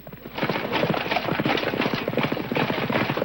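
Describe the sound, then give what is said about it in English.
Rapid, heavy hoofbeats of two jousters' horses galloping toward each other along opposite sides of a fence, a dense drumming rhythm that stays loud throughout, with no voices. “Two jousters ride toward each other along opposite sides of the fence.”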